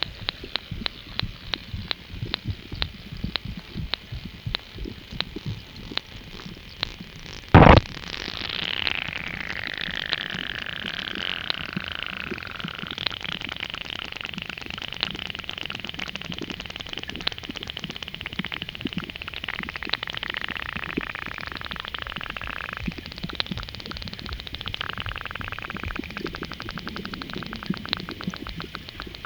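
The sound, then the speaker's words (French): A continuous fizzing crackle of dense tiny clicks and pops in canal water, like sparkling water, broken by one sharp loud impact partway through, followed by faint wavering tones. No one speaks. “Comme le pétillement, comme si le canal c'était une eau pétillante.”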